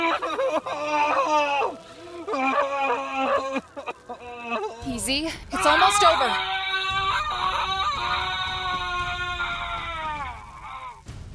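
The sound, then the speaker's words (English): Strained cries of pain rise and fall in long wavering screams as a wound in metal flesh melts itself back together, with a steady sizzling, hissing noise underneath in the second half and a calm voice speaking briefly. “The sound of his metal flesh melting itself back together is broken only by Warden's painful screams.”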